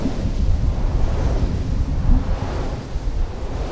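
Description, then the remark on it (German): Strong wind roars steadily across the microphone at the Whitelee wind farm south of Glasgow, Scotland, a site with 215 wind turbines; a dense low rumble with buffeting gusts and no pauses, loud throughout. “Es bläst … von der Betreiberfirma Scottish Power immer noch kräftig ins Gesicht”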